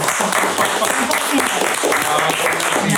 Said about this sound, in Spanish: Lo que haces... Y cómo lo haces, merece un aplauso muy especial.